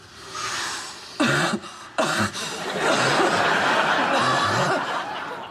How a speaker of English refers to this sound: Cough it all up. Don't want any extra phlegm wake.